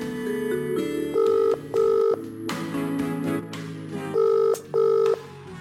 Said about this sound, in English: Phone call to Jay.